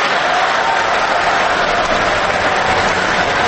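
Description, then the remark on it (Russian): Sustained applause from members of Russia's Federation Council and State Duma deputies, a prolonged ovation after the proposal to admit Crimea and Sevastopol into Russia: a dense, steady roar of clapping that stays loud and even throughout with no pauses or speech breaking through. “Продолжительные овации членов Совета Федерации, депутатов Государственной Думы, которым предстоит, по всей видимости, почти единогласно проголосовать вот за это решение об аннексии Крыма.”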